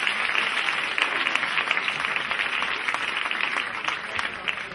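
audience applause

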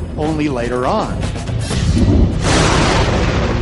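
thunder

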